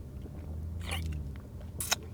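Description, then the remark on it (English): Two brief slurping sips of water, separated by about a second, over a low steady background hum with no talking. “And I was like, well, I had some, hang on, let me take a sip of fucking water here.”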